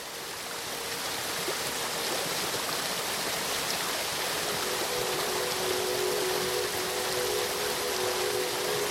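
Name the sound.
waterfall rushing water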